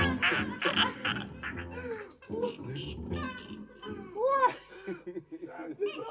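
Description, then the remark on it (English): A cat meows several times, drawn-out, rising and falling cries, mixed with and partly over people talking in the background. “that cat is something.”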